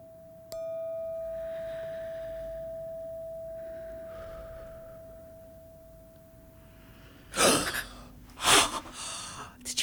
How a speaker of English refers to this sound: With the ringing of this bell, we invite you into this room.